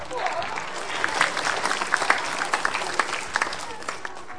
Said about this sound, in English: Okay, give him a big clap.